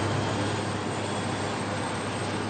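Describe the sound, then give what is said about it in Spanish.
A helicopter carrying Franco's remains from the basilica to the Mingo Rubio cemetery in Spain drones steadily overhead, its engine roar a dense, continuous wash of noise with a deep low rumble, holding constant and fairly loud throughout with no voices. “Franco es conducido en helicóptero al cementerio de Mingo Rubio.”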